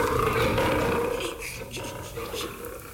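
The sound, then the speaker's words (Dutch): A large wild cat named Sultana, urged by her keeper to roar for an audience, lets out a deep, rumbling roar, loud and sustained for a few seconds before easing off slightly at the end. “Doe alsof je een heel gevaarlijk beest bent. Dat vindt het publiek mooi. Dan kunnen ze griezelen. Doe maar, meisje. Brul dan.”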